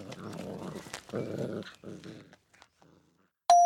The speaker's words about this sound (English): A mother dog whimpers into her puppy's fur. This is dog talk for listen to me and mind your manners.